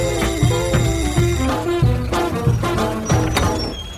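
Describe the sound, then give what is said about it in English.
A doorbell at an address in Earl's Court rings insistently for several seconds, a bright metallic jangle with steady repeated pulses and shimmering high overtones, fairly loud, with no voices over it. “I took a taxi there and rang the bell.”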